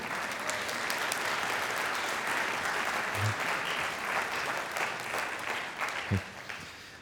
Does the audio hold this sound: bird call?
no